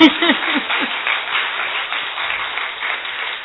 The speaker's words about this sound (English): That's a beautiful answer. The best. I think we should applaud.